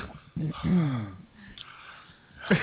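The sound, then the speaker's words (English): Heavy, wheezing breaths from a person at least 4 feet away, a couple of raspy, partly voiced exhales with a brief sniff-like intake, loud at first and then trailing off. “Oh, right in my face now you're breathing that fucking humid, disgusting.”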